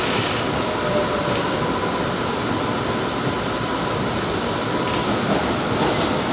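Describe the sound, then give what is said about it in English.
A light rail train bound for Cleveland Circle rumbles steadily between the Dean Grove and Englewood Avenue stops, a continuous roar of wheels and motor with faint rhythmic track clatter and no voices. “The destination of this train is Cleveland Circle.”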